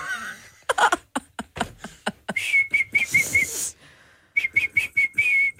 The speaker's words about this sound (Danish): Blow my whistle, bitch.